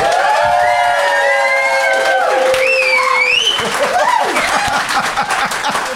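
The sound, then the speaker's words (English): An audience claps loudly and steadily for several seconds, with cheers and shrill, sliding whistles rising above the dense patter of applause, applauding to vote for the side they think has the best case. “But if you think Will and Fanshawe and therefore Dan have the best case, please applaud now.”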